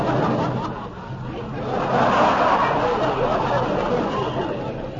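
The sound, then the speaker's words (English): A dense, continuous murmur of a great crowd of people in a village blends into an indistinct babble, swelling slightly in the middle, with occasional chuckles and snickers rising out of the steady hubbub. “And now we enter a village and notice great crowds.”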